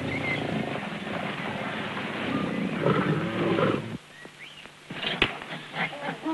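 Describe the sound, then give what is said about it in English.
A lion growls in a low, rough, continuous rumble, loud, with dragging sounds as it drags a dead wildebeest by the head along the dirt. After a few seconds it fades to quieter scuffing and a few chirps. “Biting into the large antelope's head, the lion drags its lifeless carcass along the dirt.”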